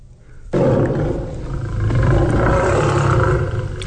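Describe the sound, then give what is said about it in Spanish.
A lion's deep, loud roar bursts in abruptly and holds steady for several seconds, a rumbling, growling sustained sound with no talking. “Le pido que lleve su rugido y sus dientes afilados a otros lados.”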